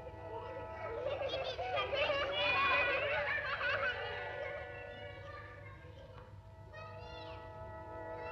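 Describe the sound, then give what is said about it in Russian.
A cat meows in a long, wavering, drawn-out call that swells and then fades, followed by a few softer, shorter mews, over a low steady background hum. “Веселый кот, голодный кот, хитрый кот.”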